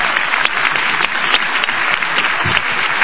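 A crowd applauds a performer, a dense wash of many hands clapping at once with scattered sharper claps standing out, loud and continuous throughout without letting up.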